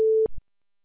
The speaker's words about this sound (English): You have reached the voicemail system. Please leave your message after the tone.